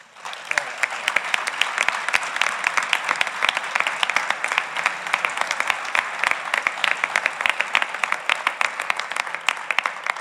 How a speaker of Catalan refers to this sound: perquè se ho ha merescut i crec que deuen de fer-li un aplaudiment molt gran per a ell.